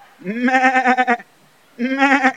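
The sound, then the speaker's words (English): A person's voice imitates a sheep's bleat twice: a long, wavering baa followed by a shorter one after a brief pause, loud with no other talking. “I even still have the song, man.”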